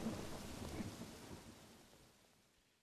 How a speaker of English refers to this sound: The storm continued for 20 minutes.